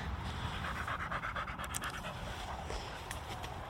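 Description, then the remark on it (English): A dog on a lead pants rapidly and steadily while walking out of woods beside a rugby pitch, its quick breaths continuous over a low, constant rumble of traffic from the A90 road running parallel, with no one speaking. “Dog back on the lead as we come out of the woods, because we're just a way to go onto the road for a short distance under the overpass.”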